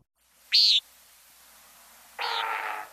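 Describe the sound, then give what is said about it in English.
A male nighthawk gives one short, nasal buzzy call, then after a pause a louder, rushing booming roar from its wings at the bottom of its courtship dive, lasting nearly a second, against faint background hiss. “Hear the call and the very unusual sound of the wings.”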